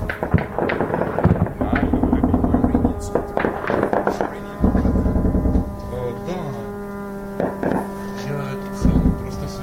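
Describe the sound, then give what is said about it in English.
Loud bursts of rapid air defense machine gun fire with tracers crackle in quick repeated volleys, then fade into scattered pops over a steady engine-like drone. “The traces of the air defense. Machine gun of air defense.”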